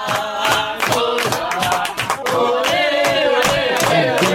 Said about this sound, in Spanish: Más apoyo que crítica, ¿vio? Hay mucha más gente gritando a favor.